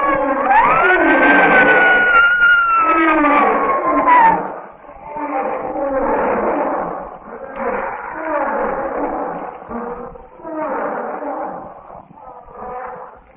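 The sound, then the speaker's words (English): A lion in a lion's den lets out a long, loud roar that rises and then slowly falls as it charges, followed by a series of rough, snarling growls in short bursts. “With a blood-chilling roar, one of the brutes charges.”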